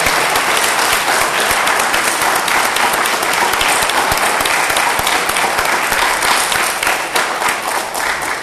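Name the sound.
audience round of applause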